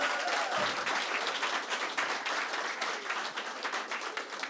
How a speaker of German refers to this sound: Ein Applaus für meinen Vater.